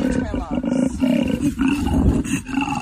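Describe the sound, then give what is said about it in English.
A koala's mating bellow, a deep, rasping, snore-like roar that rumbles continuously and loudly for about three seconds, pulsing slightly in intensity with no one talking. “We just heard the mating call of a koala, which completely shocked me.”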